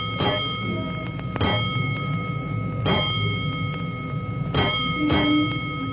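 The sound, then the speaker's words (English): The alarm bell at the firehouse of Engine Company 209 strikes about five times in an uneven pattern, each clang ringing on with a sustained metallic tone over a low background rumble. Nobody speaks. “But before he can report to his officer, he hears an alarm, and he leaps aboard 209 as the great engine prepares to roll.”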